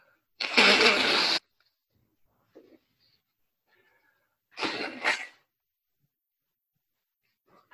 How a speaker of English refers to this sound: I'm going to blow my nose. Hang on a second.